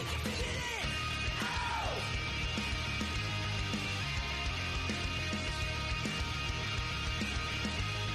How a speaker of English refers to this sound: Did you hear the cat yell during my outro? Yeah, it's fine though. It's cute.